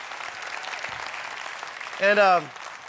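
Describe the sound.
A church audience claps steadily to thank the people who serve, a dense, continuous wash of many hands at an even level, with a short voiced shout or cheer rising above it near the end.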